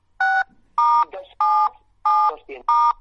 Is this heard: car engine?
no